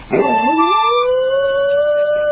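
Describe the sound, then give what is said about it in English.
A dog named Jesse lets out one long, loud howl, singing along to accordion music playing a romantic Italian ballad, starting with a rough yelp that slides upward into a steady, sustained wail held for a couple of seconds, with no talking. “Richie, would you please fix it so we can hear Jesse singing along to an accordion?”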